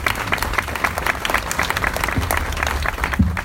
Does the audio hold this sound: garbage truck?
no